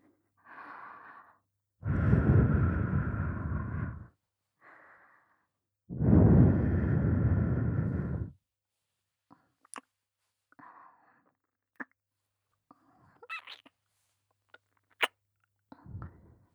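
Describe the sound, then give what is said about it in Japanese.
Breathy, warm exhales blown right up against the microphone as if into a listener's ear, two long gusts and a few softer ones, followed by faint wet lip and mouth clicks in near silence. “温かい吐息と柔らかい唇、いっぱい堪能して。”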